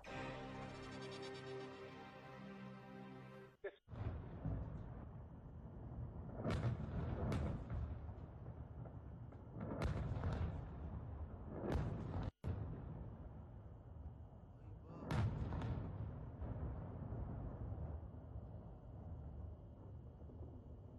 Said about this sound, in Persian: صدایی که شنیدید از برخورد موشک‌های شلیک شده به مرکز جاسوسی رژیم صهیونیستی در اربیل عراق بود.